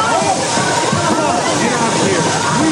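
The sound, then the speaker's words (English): Water gushes and sprays loudly and continuously from a ceiling fire sprinkler in an office, set off by a burning paper towel held to it, a steady dense hiss with sloshing splashes throughout, while a voice is faintly audible beneath the rush. “As flames lick its metal spokes, water gushes out, knocking the paper towel from …'s hand.”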